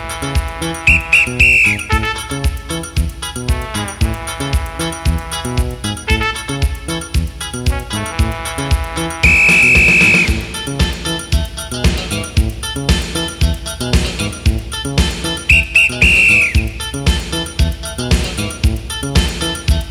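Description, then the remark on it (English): Shrill whistle blasts cut through steady background music in three short bursts: a quick few-note pattern, a longer single blow, then another rapid pattern near the end. “Put your hands in the air whenever you hear the tee-tee-tah pattern played on the whistle.”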